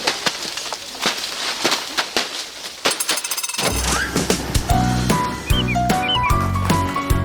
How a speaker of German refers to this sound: Wenn auf einer Streuobstwiese mitten im Siebengebirge lautstark Äpfel runterprasseln und die Leute drumherum ziemlich gute Laune haben, obwohl sie gerade körperlich anstrengende Arbeiten machen